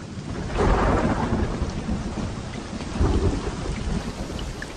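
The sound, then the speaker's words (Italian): Heavy rain pours in a steady, dense hiss over a mountain while deep rumbles of thunder swell twice, once early and again near the end, in a loud storm with no voices. “Piovve ininterrottamente per 5 giorni.”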